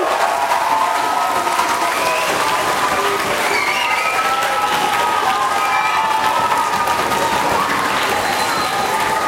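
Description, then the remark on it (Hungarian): A crowd at Széchenyi István University applauds the organizers of the event, clapping steadily and loudly for several seconds, a dense wash of applause with some faint cheering and voices mixed in throughout. “Tapsoljuk meg őket, mert ők szervezték meg az egészet nektek.”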